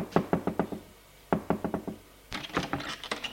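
Knocking on the door of hotel room 424 on the fourth floor in three quick bursts of four or five firm raps each, fairly loud, with short pauses between the sets and no voices.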